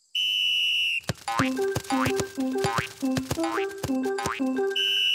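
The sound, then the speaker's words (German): A rapid, steady series of springy, cartoon-style football bounces, each a sharp thump with a wobbly boing, as a coached team practises dribbling, headers and shots on goal. Bright sustained tones ring before and after. No one speaks. “Die Trainerin lässt die Mannschaft dribbeln, Kopfbälle üben und aufs Tor schießen.”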